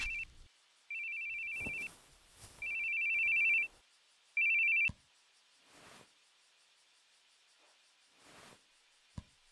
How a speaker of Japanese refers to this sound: 電話本社からっすよね。